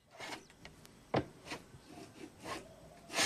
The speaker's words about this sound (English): Sam goes up the steps to the porch where Dennis is planing the top of the front door.